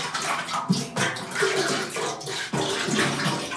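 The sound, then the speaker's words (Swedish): Green water pours out in a steady, gushing stream, a loud continuous splashing that rushes for a few seconds without any talking over it. “Nej, det var så en jävla upplevelse att hälla ut det där alltså.”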